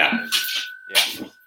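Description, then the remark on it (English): A dog's tail thumps against the posts of a table twice in a hardwood room, each knock setting off a steady, bell-like metallic ring that hangs on throughout, moderately loud, with no talking. “No, her tail is hitting the posts on the table. Right, and making it ring perfectly.”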